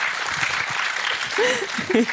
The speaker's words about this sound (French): Applaudissez-la pour ça !